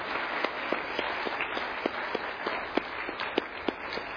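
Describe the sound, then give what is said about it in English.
A crowd at an awards ceremony applauds steadily as award recipients finish up. Dense overlapping claps form a continuous wash, with scattered sharper individual claps standing out, at a fairly even level throughout. “So our final award, let's go ahead and give them another round of applause as they finish up.”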